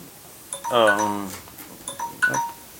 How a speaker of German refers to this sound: ich dachte eigentlich, es wäre leise. Das klingelt der Wecker hier.